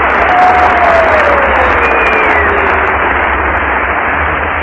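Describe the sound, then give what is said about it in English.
A studio audience at a talent contest applauds and cheers loudly and steadily for the whole stretch, a dense roar of clapping with a couple of sliding whistles rising above it, the response measured by an applause meter. “What does the applause meter tell us, Mr.”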